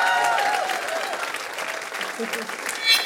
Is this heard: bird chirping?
no